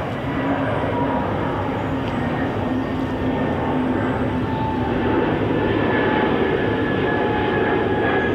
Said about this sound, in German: Ist das noch das gleiche Flugzeug Nein, oder schon ein neues? Das ist neues.